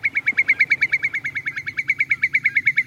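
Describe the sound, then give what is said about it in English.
At the salt marsh adjoining Long Beach near Stamford, Connecticut, a bird calls in a fast, steady series of high, sharp chirps, about eight per second, repeating evenly for the whole stretch over a low, faint background hum, with no voices. “And this area is one of the most important areas for birds in Connecticut.”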